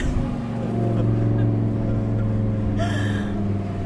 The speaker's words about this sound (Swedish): Hur många hästkrafter är det? 640 hästar idag. Och det är fyrhjulsdriven, så all kraft kommer ner. Det är 10 cylindrar, en V10. Men han låter mer än en V12 som du hör.